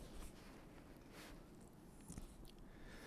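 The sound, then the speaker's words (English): Soft, crunchy footsteps of boots walking on snow, a few uneven steps spread across the moment, each a brief gritty crackle over a low, steady rumble of background noise. “Where I'm walking right now, I can hear the snow crunching underneath my boots.”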